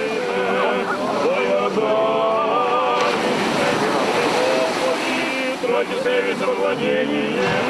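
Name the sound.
sea waves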